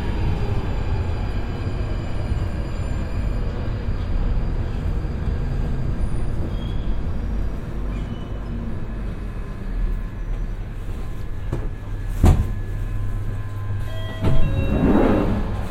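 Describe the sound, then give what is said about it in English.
A London Underground tube train rumbles steadily as it pulls into Good Street Station, its heavy low roar carrying faint whining tones, then slows to rest with a sharp clank and a brief squeal of brakes near the end. “Sound of the tube train rolling into rest at Good Street Station on the London Underground.”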